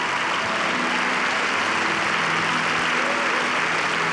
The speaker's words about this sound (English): Hallelujah. Come on. Clap in the other campuses, even though they can't hear you. Hallelujah.